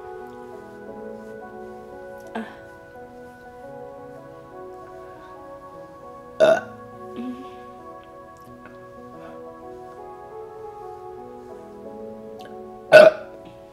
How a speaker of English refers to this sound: Just gotta get the burps out. Big burps.